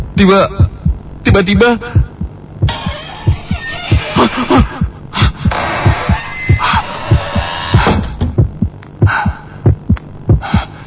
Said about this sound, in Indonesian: Jantungku mulai berdegap kencang.